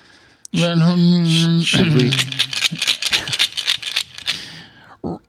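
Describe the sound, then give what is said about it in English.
A brief sustained voiced tone opens, then a loud clattering rattle of many quick clicks as dice are shaken, like in a cup, and rolled across a surface, fading out near the end. “We're going to talk about dice. Yeah, I'm rolling for it right now.”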